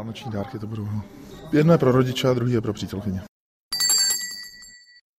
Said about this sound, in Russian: А вот так звучит колокольчик